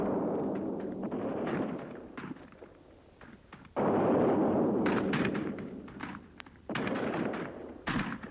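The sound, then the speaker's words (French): Rapid, crackling rifle fire pops continuously over a heavy, rumbling low boom of cannons, with the din swelling and easing in loud bursts and no voices; street fighting in Paris toward Auteuil and Passy during the Paris Commune, heard from the Champs-Élysées. “Champs-Élysées, on entend vers Auteuil et Passy, ponctué du tonnerre sourd des canons, crépiter sans arrêt la fusillade.”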